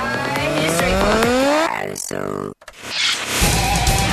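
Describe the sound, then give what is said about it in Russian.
A car engine runs and revs upward with a rising whine, then cuts briefly before a rougher, noisier stretch of engine sound follows; loud. “Моторы.”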